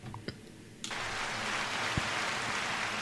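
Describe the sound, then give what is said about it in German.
After a short quiet lead-in with a couple of soft knocks, a dense wash of clapping bursts in and holds steady to the end, with no voices over it. “Ja, danke für diesen Applaus.”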